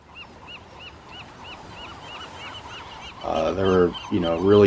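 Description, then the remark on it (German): A series of short, evenly spaced pelican calls rings out over a low outdoor hum, then louder, harsh honking pelican calls burst in near the end. “Pelikane sind damals so etwas wie die medialen Aushängeschilder der großen Ölkatastrophe geworden, die sich 2010 im Golf von Mexiko zugetragen hat.”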